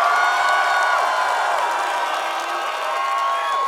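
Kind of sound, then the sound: crowd, audience applause and cheering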